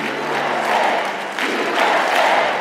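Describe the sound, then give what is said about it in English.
A crowd of thousands at an anti-vaccine activists' conference at the Gaylord Opryland Resort in Nashville, Tennessee, applauds and cheers loudly and continuously during Eric Trump's speech attacking COVID vaccine mandates, a dense wash of clapping and shouting that swells twice, dips briefly in the middle, then rises again. “Some of his biggest applause lines came when he attacked the COVID vaccine mandates.”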